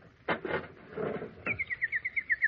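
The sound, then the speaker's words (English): A nightingale sings a rapid, even series of about ten bright, clear whistled notes, following a few soft rustling sounds at the start. “My little nightingale. She's come back to me.”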